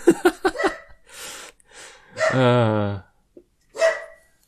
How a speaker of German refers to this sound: Ich bin ja dafür, dass wir irgendwann mal so einen Track aus dem Bellen deines Hundes machen.